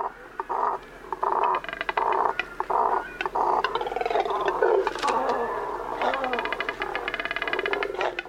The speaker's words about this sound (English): These deep, guttural sounds are coming from a nesting colony of double-crested cormorants. Large black water birds with short legs and long necks. Look closely and you can see the bird's double crest, its two long, gloriously feathered eyebrows.